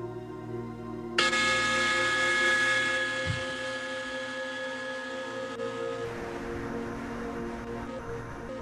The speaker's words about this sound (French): Dans un instant, je vais faire sonner une cloche. Ça annoncera la fin de la méditation.